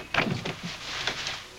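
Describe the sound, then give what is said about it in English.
The door of room 463 in a fourth-floor hallway opens after the room buzzer is pressed, with a short mechanical rattle and click, followed by a soft sliding or creaking sound as it swings, all fairly quiet and without any voices. “The door opens.”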